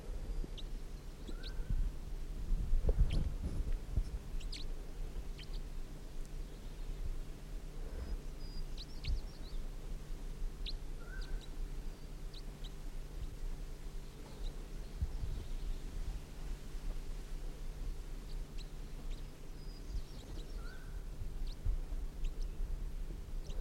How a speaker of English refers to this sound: And the decoys are just chittering now, and the wild birds sitting up in the top of the tree, fluffing.